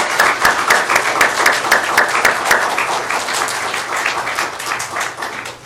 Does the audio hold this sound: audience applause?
yes